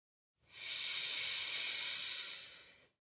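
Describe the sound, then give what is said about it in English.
A single slow, deep inhale, airy, drawn steadily for a couple of seconds before fading out, with no talking around it. “Breathing in.”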